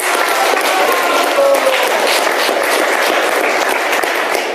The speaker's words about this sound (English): Let's give him a clap. He did very well.